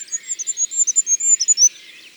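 A goldcrest sings a very high, thin song: rapid rhythmic repeated notes over about two seconds with an energetic finish, clear, with no voices.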